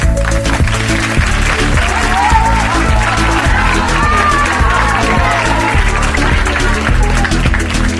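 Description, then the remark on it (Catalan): Loud, sustained audience applause and cheering at the 12th national radio final of Picalletres, held in the auditorium of the Centre Cívic Tomasa Cuevas in Barcelona, a dense steady clatter of clapping with scattered whoops, running for several seconds over a droning musical backdrop. “Senyores i senyors, nois i noies, us demanem que no aparteu els ulls de l'escenari i que aplaudiu amb totes les vostres forces.”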